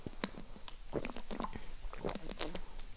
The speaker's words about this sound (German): Gut, erstmal einen Schluck Wasser trinken.